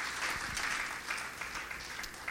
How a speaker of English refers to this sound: Let's give a big clap offering to the Lord.